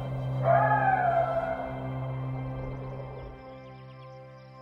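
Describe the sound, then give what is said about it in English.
Coyotes howl in the distance, a few wavering, overlapping cries that rise and slowly fade over a couple of seconds above a steady low background hum, with no one speaking. “And every now and then, you can hear coyotes howling in the distance.”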